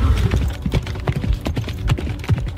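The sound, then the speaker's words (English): Steady clip-clop of horse hooves on a hard surface, a quick rhythmic pattern of sharp knocks repeating throughout, with no voices. “It took a breath, like, oh, I'm on a horse.”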